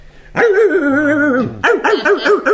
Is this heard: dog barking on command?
yes